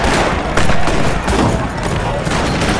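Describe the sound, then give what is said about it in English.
A rapid volley of gunshots cracks out in quick, uneven succession at the far end of a town street as men shoot up the town, several shots overlapping with a noisy, echoing background and what sounds like indistinct shouting voices. “Several gunshots erupted from down at the far end of the street.”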